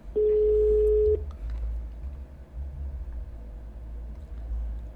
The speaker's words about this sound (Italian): Squilla. Squilla, attenzione, silenzio.